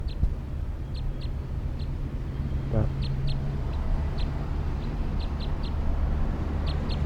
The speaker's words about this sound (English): Recording the wild bird. Wild bird, stop. Recording the wild bird again at 1:09 p.m. Wild orange male, lone bird.